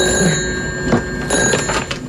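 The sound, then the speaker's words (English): An old-style telephone bell rings loudly and continuously, a rapid metallic rattle with steady bright tones that carries through the whole stretch with no voices. “Yeah, he's got his old school ringer on there.”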